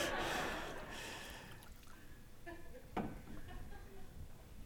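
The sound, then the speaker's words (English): Scotch pours into a glass with a steady splashing gurgle that gradually tapers off, followed by a few small glassy taps and a brief clink. “And I didn't know they were going to do that, so bear with me while I pour some.”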